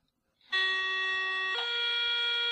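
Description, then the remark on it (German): A voice imitates an S-Bahn door-closing signal: a loud, steady tonal whine held for about two seconds, stepping abruptly to a slightly different pitch midway. “Aber es ist schon original das S-Bahn-Türschließgeräusch, ne?”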